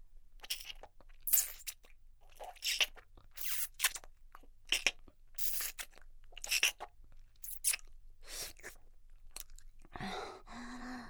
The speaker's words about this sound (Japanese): 最初だけ舐めてあげるね。